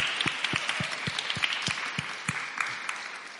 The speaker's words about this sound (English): Haven't they been great? Hasn't it just been amazing, so rich to receive testimony? Yeah, I think we can give them a clap because it's been brilliant.